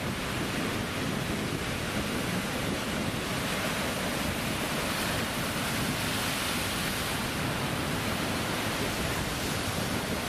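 A steady, dense roar of surf washing against the shore fills the whole recording, loud, with no distinct individual crashes standing out and no voices.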